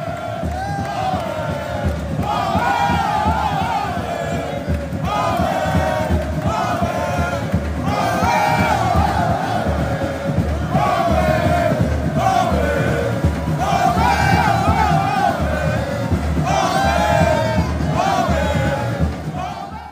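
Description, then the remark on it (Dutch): A large crowd roars and chants continuously in a nearly full venue that keeps filling with people, loud, with rhythmic surges of massed voices rising and falling throughout. “Nou, het was eigenlijk eerst helemaal niet zo vol, maar het blijft gewoon maar binnenstromen. En onderhand zit het gewoon bijna helemaal vol.”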